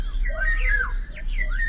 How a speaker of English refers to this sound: Cricket.